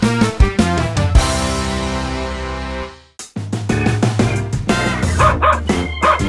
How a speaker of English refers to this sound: Dog.